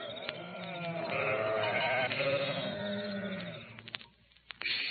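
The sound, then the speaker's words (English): Several sheep of a flock watched by shepherds on the hills near Bethlehem at night bleat in long, wavering overlapping calls, fairly loud, before the flock quiets near the end, leaving a few soft knocks. “Out there in the hills, shepherds were keeping watch over their flocks of sheep that night.”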